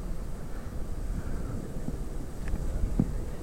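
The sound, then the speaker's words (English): Ocean waves make a steady, low rumbling wash that mixes with wind buffeting the microphone. A couple of faint, brief knocks stand out near the end, and nobody speaks. “And I'll try to use the microphone so you can hear him over the waves a little better.”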